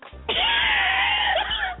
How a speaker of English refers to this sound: I need to move my phone out for a second because I got to flush.